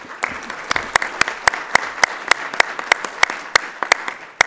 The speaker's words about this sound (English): Yes. A well-deserved round of applause.